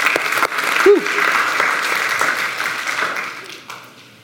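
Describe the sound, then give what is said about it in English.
A crowd claps for God, a steady, dense, continuous wash of applause that holds for several seconds, with a brief vocal whoop early on, before the clapping fades out toward the end. “Can we clap and give it up for God real quick?”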